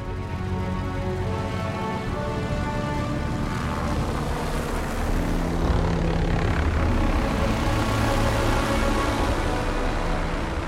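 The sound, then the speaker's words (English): The engines of four-engine C-54 propeller transport aircraft flying to West Berlin drone loudly and steadily throughout, a dense throbbing hum with layered tones that swells slightly midway, continuous with no voices. “He expedited the replacement of the C-47s, the twin-engine military version of the ubiquitous DC-3, with the newer four-engine C-54s.”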